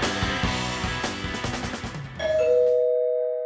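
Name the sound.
doorbell ringing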